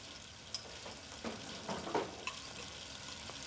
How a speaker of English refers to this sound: Lisa stoops over to wash dishes in the classroom sink